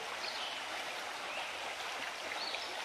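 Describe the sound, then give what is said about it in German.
Steady babbling of a small stream in a forest running over stones and larger rocks, a continuous bright rush of water with small splashy gurgles and tiny waves, even in level throughout, with no voices. “Das Wasser tanzt über die Steine und größeren Felsen. Während das Wasser um die Steine und Felsen fließt, bilden sich ganz kleine Wellen.”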